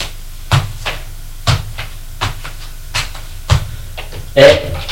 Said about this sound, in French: Elle ouvre la porte du placard.